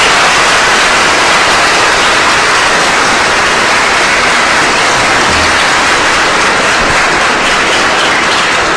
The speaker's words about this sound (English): Ladies and gentlemen, I think the lawyers did an outstanding job in arguing the case. I think they deserve some applause, don't you think?